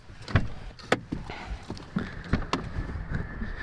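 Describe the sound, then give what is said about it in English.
Someone steps out of a car: a series of clunks, clicks and thuds from the door and movement, with a faint steady electronic tone humming underneath in the second half. “I'm just stepping out of the car and we're walking over to the photo mobile.”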